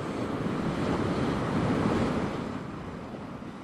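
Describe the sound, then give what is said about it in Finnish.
Swells break and wash over shoreline rocks on the Finnish island of Uuttöö in a steady, hissing roar that builds slightly before easing off, with no voices and a faint wind-like rumble underneath. “Jos tuuli ei humise, vähintäänkin korviin kantautuu rantakallioihin vyöryvien maininkien kohina ja vesilintujen erilaiset tiedonannot.”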